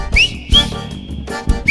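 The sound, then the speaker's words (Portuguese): Bright, rising whistle notes repeat in a short rhythmic pattern, one tone held steady between sharp upward swoops, loud over a thumping beat. “vai fazendo o assobio.”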